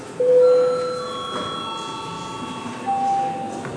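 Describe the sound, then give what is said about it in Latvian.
The Latvian Saeima parliament session bell, rung to call a break and deputy registration, sounds alone: a steady electronic ringing of several held tones at fixed pitch, lasting the whole stretch, with a new higher note joining near the end. “Kolēģi, laiks pārtraukumam, lūdzu zvanu, lūdzu deputātu reģistrācijas režīmu.”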